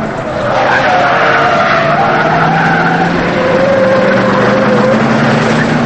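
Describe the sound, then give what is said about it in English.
Loud, continuous tire squeals and roaring engines as an old blue car and a pursuing SUV race and skid through back alleys and over a hill in a chase, the screeching pitch sliding and wavering for several seconds without any talking. “The old blue car leaps over a hill, and so does Joe's SUV.”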